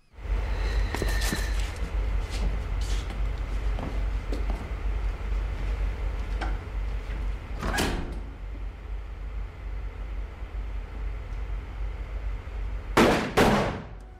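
From a scene in the film Der Untergang, in which generals Krebs and Burgdorf take their leave: a smoked cigarette is ground out against a boot with a few gritty scuffs, then a door thuds shut, and two sharp gunshots crack in quick succession near the end over a low, steady rumble.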